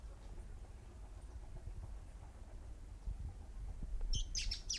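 A quick burst of several high, bright chirps from several birds chasing one another breaks out near the end, following a stretch of low, steady rumble with no voices.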